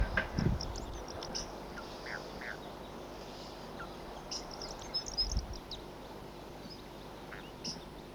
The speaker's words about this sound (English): Here comes a flock, and there are the wild birds here. Wild.